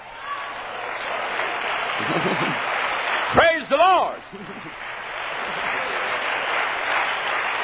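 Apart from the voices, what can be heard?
audience applauding and clapping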